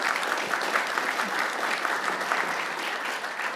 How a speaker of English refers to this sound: Well, thank you, Karen. Let's give Karen a round of applause.